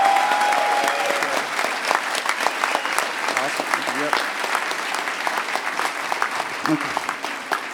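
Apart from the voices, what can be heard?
audience applause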